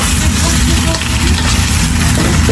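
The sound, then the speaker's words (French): Steady, loud sizzling of potatoes sautéing in a hot pan in a kitchen, a dense crackling hiss that continues without pause for a few seconds. “Les pommes de terre rissolent en cuisine”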